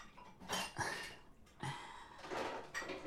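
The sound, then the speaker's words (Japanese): Dishes clatter and clink, with running water and scattered knocks of plates and cutlery being washed and handled in a sink, no one speaking. “皿洗いといってもちょっとだけですし。”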